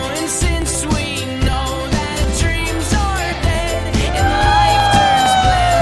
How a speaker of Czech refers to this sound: Já poprosím publikum, aby všichni odpočítali kámen, nůžky, papír teď spolu s nima.